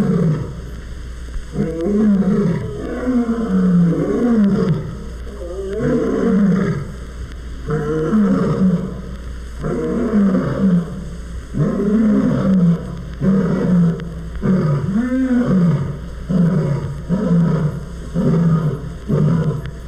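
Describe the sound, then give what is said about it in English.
Several lions roar together after feeding in a long, overlapping chorus, deep rumbling calls rising and falling in repeated bursts, loud, with no talking. At the end come the squeaky little roars of two new cubs imitating their parents. “After feeding, lions sometimes enjoy a roaring session.”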